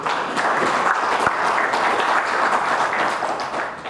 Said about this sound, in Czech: Vyznamenaným předsedou VSR armády České republiky patří potlesk.